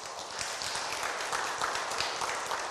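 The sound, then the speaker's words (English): A crowd at a Mass applauds steadily for the baby Jesus, a dense, even wash of many hands clapping at once that holds at a constant level for a few seconds with no voices rising above it. “Can we give big applause to the baby Jesus?”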